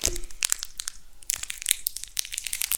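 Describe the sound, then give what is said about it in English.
Crisp, crackling crinkles and a few sharp rips as a plastic wrapper on a sugar-covered candy is torn open by hand without scissors, in an irregular burst of noisy snaps with no talking. “If you just rip it. It'll be okay.”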